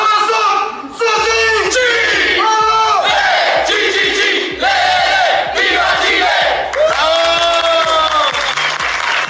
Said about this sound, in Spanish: Y con ese CHI que escuchamos de fondo es el grito donde los deportistas, los paradeportistas, los paratletas llegaron a Chile el día de ayer después de una gran participación en Francia, en París 2024,